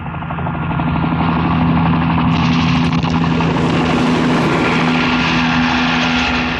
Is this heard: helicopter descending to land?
yes